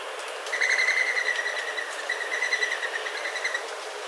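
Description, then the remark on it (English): A mourning dove's wings whistle as it takes off, a fast rhythmic series of thin, high twittering whistles lasting about three seconds, clear with no voices. “Here's what the non-vocal whistling flight of a mourning dove sounds like.”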